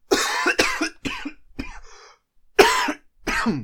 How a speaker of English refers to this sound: Because I have to cough.